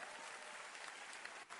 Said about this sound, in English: Clap for yourself if you pay your tithes.